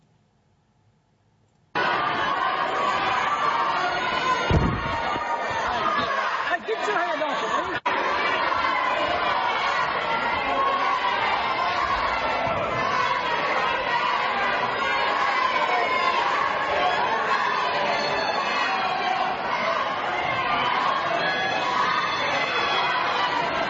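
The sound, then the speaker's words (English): A large crowd of children shouting the word "fascist" together, a loud, dense wall of young voices that starts abruptly and keeps going without letup, packed into one space. “Kind of hard to hear it real plainly, but what the children were shouting was fascist. Fascist, fascist, fascist.”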